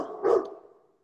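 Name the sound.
dog barking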